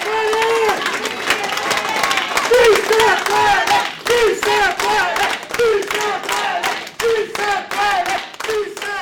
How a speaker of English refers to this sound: an organizer with CASA, leads the crowd shouting, "Yes, we can."